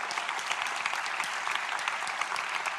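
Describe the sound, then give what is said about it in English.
A crowd claps steadily throughout, a dense, even wash of many hands with sharp bright clicks scattered through it and no voices on top. “Oh, would you say yes, and now give him your best clap, please.”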